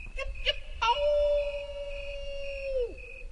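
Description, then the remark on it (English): A mouse in the Idaho desert gives a high-pitched howl: two brief squeaks, then a long, thin, steady whistling note held for about two seconds before it bends downward and fades, heard alone. “So the question is it better to hear a mouse and know it's there or not hear it and wonder?”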